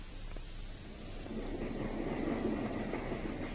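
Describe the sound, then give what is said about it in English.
A moving train, the train to Paddington, rumbles steadily along the rails, a continuous low, dense roar that swells slightly partway through, with no voices. “I think we've just time to catch our train to Paddington.”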